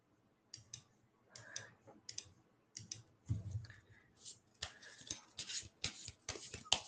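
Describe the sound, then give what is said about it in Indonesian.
Crisp bursts of papery clicking and riffling, first in separate short flutters, then in a quicker dense run, like a deck of playing cards being shuffled with no talking. “Can you guys hear kartu?”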